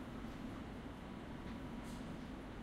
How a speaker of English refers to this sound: The next station is Wembley Park. This is an all-stations Metropolitan Line train to Watford.